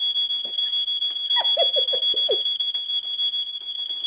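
A loud, continuous high-pitched fire alarm tone drones steadily throughout, with brief muffled voices and a few short chirping notes underneath.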